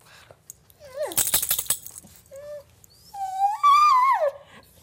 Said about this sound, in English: This is my producer Amanda's dog, Truffles. As you can hear, she's whining about something.